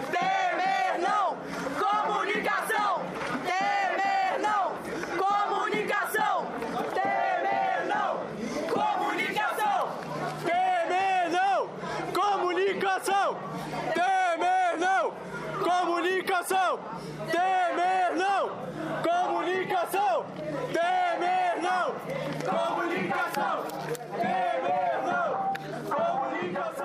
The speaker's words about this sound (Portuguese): Já no ambiente da reunião, composta de 17 conselheiros, que se deu na instalação da EBC em Brasília, os manifestantes gritavam a palavra de ordem: comunicação, Temer, não.